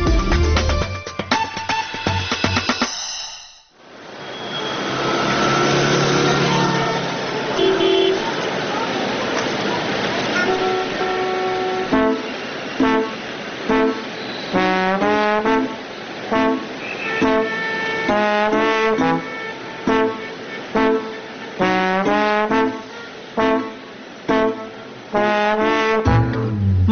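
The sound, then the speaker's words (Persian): Busy street traffic with cars waiting at traffic lights rumbles for several seconds, with engine noise and a few car horns honking, before rhythmic music takes over and a voice comes in. “ماشینا پشت چراغا آدمام بین اونا توی دود”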